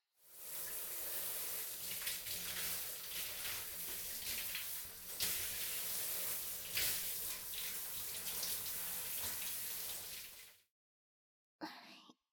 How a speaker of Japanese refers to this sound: 少し待ってくださいね。シャワーをマットにかけて温めますね。